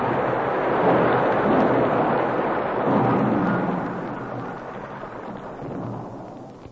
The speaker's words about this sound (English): He pitched forward into the snow as the avalanche roared down behind him.